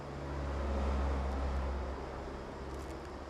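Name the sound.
car passing by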